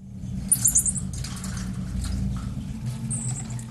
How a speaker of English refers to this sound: Well, inside was a monkey in a cage. The marmoset had been abandoned and was reported to the RSPCA Animal Welfare Organisation.